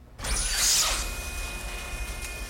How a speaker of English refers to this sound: Saloon doors are open.